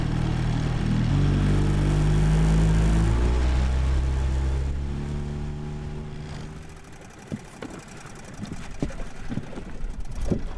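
A motorboat engine drones loudly and steadily as the boat crosses a river to a fish wheel, then its pitch drops as it throttles down and fades, leaving quieter water sounds and a few sharp knocks near the end.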